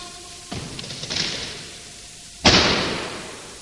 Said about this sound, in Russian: Тяжелая бронзовая дверь захлопнулась за спиной юноши.